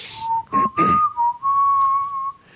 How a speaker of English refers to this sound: I picture you now walking into Allstead Farms with your family in tow, ready to get some fucking fall on, ready to engage in some fucking brown and orange, crispy, cold fucking fun as you're humming and whistling this fucking tune.